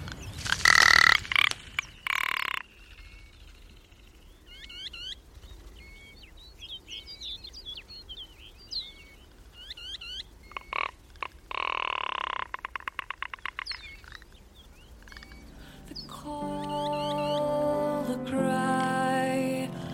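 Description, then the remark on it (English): A field recording of a ptarmigan on the plateau, giving harsh, croaking, belch-like rattles in short bursts, mixed with thin high chirps, and a steady harmonic tone swells in near the end. “And first up is a bird you'll recognise from the plateau, the ptarmigan.”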